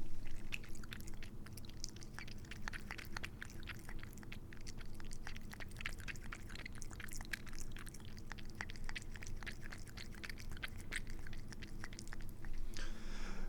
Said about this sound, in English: And just like yesterday, we will now listen to my cat drinking the kitty water.